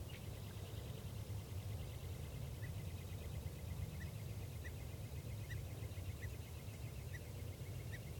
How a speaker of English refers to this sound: Okay, bird one there is a male perched right above the net, and this is him getting some song phrases.